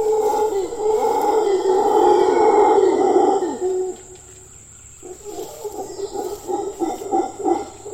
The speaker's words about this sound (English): And I think it's something that birds in particular, but also things like howler monkeys, they understand this, and the power of their voices is pretty intense.